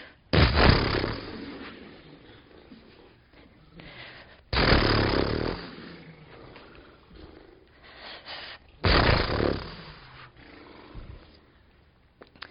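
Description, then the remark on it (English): During a shaking and wiggling exercise, a voice imitates a horse snorting three times, each a loud, breathy, rumbling blast that trails off, spaced about four seconds apart with quiet breathing noise in between. “And how many of you have ever seen horses in the field? Yeah. And they kind of go...”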